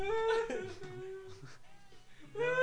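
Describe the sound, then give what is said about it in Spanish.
Loud wailing and sobbing from a voice, with a long drawn-out cry at the start, shakier whimpering sobs in the middle, and another sustained wail rising at the end. “Ya están llorando, que es el último programa del año. Entonces, escuchen los llantos.”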